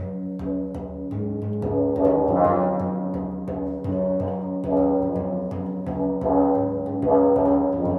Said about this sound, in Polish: To już brzmi trochę jak dzwony kościelne. A te bębny są chyba jeszcze trochę głębsze niż te tenory, ale mniejsze od tych beczek.